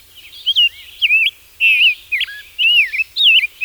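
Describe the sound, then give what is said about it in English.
A songbird sings a bright, warbling song in about six quick phrases separated by short pauses, clear, with no voices and only a faint low rumble behind it, in large oak groves on High Island, a raised area on the coastal plain where migrating birds stop to rest. “High Island's raised area measures a mile across and rises 30 feet above the grass and scrub of the coastal plain, just high enough to support large groves of oak that give migrating birds a place to stop, rest, and refuel.”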